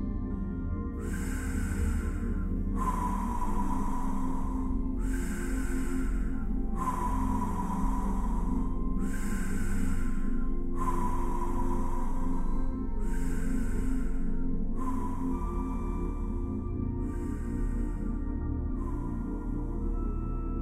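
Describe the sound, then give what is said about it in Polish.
Steady deep breaths of a breathing exercise, moving the belly and chest, repeat in an even rhythm, about ten airy inhales and exhales, each lasting a second or two, over a low continuous background drone. “Zacznij już teraz oddychać w ten sposób.”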